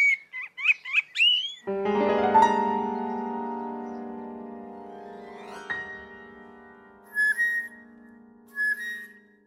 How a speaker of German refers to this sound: Die Amsel.